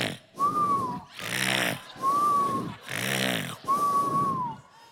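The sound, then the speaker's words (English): A voice imitates loud, rattling snoring likened to a Harley Davidson that needs a tune-up: about five heavy breaths alternate between harsh, buzzing inhales and wheezy, whistling exhales in a steady rhythm, with no other talking. “Some of them sound like a Harley Davidson that needs tune-up.”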